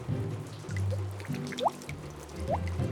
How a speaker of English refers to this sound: The rain falls. It is rainy.